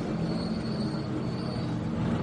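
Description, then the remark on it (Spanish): A NASCAR stock car driven by Fernando Alonso at the Bahrain circuit, in a car swap with Jimmie Johnson, roars steadily and loudly for a couple of seconds, a dense, continuous drone with a deep rumbling low end and no voices. “Es un NASCAR, ¿vale?”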